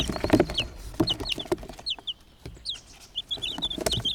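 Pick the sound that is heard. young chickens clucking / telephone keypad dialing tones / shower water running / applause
young chickens clucking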